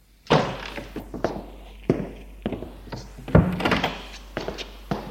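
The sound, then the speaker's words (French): A door being opened, heard as a series of wooden thunks and clatters spread over several seconds, with a heavier thump near the end. “La porte est ouverte et c'est elle”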